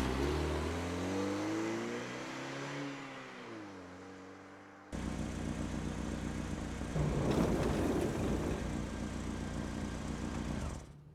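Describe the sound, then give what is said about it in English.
A car engine idles and revs, its pitch rising and falling as the car is pulled around to the other side of a concession stand at a drive-in, then a steadier, louder engine rumble with a brief surge, no voices. “You go ahead and pull the car up around the other side of the concession stand.”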